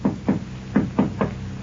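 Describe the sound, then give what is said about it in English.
Five solid knocks on a wooden door, grouped two, then a pause, then three, fairly loud with a hollow thud; a husband's characteristic knock at the door. “She turns quickly as she hears her husband's characteristic knock at the door.”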